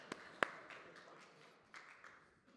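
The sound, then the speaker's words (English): Faint applause from a small audience, given to thank someone for turning off his motorcycle: a few sharp, scattered claps stand out over a soft, steady patter that gradually thins out, with no voices. “Let's give him a hand.”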